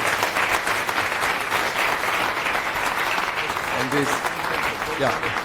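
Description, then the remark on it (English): Sustained audience applause for a speaker at the end of a talk in a conference developer room, a dense wash of many hands clapping at steady loudness, with a few faint voices calling out near the end. “Another big round of applause for Simon here.”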